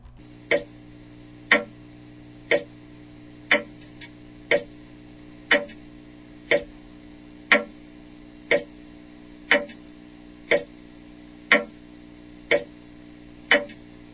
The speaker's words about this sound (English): Well, with the tick of the clock, it's getting closer.